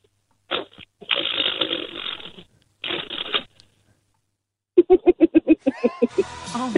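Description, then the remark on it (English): A voice imitates a chatty fart: buzzy, sputtering bursts separated by pauses, then a quick rapid series of pulsing pops ending in a giggle-like flutter. “It's a chatty bottom fart.”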